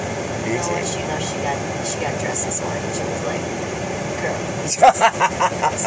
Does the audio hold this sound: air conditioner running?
yes